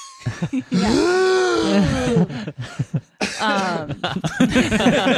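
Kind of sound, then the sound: human body sound, a real cough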